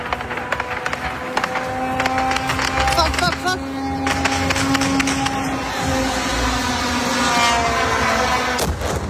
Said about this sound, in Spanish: Y si hay un sonido que define la guerra que se está llevando a cabo este último año, es este, el sonido de los drones.